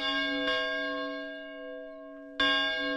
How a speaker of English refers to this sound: So you went and recorded the bells at St. John's. Yes, I felt that another sound from Lincoln's era that he would have heard would be any church bells or bells ringing in the neighborhood of the executive mansion in that time period.